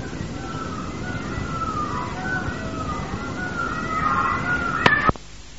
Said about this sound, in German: Wir werden ein kleines Musik im Hintergrund anmachen. Der Wald von Vrindavan. Im Hintergrund sind, wenn man nicht genau weiß, was sind das für Geräusche, das sind Pfauen, die da krähen.